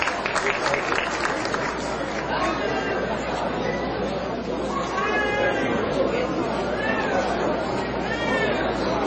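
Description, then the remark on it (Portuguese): An audience at an honours ceremony where people receive the title of citizen of Formosa applauds steadily for several seconds, the clapping blending into loud chatter and a few rising shouts and cheers. “Uma salva de palmas.”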